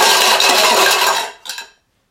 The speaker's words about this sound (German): Doch was war das? Ein lautes Scheppern erschreckt Hugo.